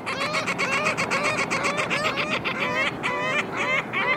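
ring-billed gulls calling

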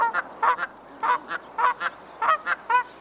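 goose honking

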